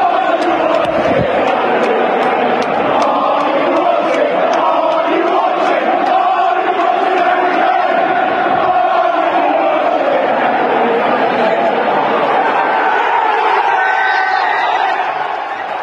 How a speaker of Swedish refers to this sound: Are you watching Harry Kane, sjöng publiken, och sedan jubel för matchslutet. Det var alltså slutpunkten på det hela. Dels då det här hånet av Harry Kane, för det var ju Tottenham-fansen som sjöng det till sin egen stjärna, som inte var med i truppen